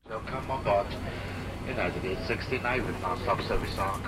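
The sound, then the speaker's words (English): A steady, low airplane cabin drone hums continuously through the whole stretch on a flight headed to Hong Kong while a person speaks over it, the engine rumble staying even beneath the voice. “We're on a plane headed to Hong Kong.”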